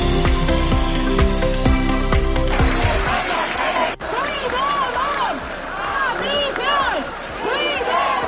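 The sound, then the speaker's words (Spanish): A loud rally crowd of about twelve thousand people at the Plaza de la Constitución cheers and chants "España no se vende, España se defiende" in protest against the amnesty, a dense mass of overlapping shouting voices rising and falling. It opens with a few seconds of steady tonal sound before the crowd noise takes over. “Doce mil personas se daban cita ayer en la Plaza de la Constitución y sus alrededores en una concentración histórica al grito de España no se vende, España se defiende.”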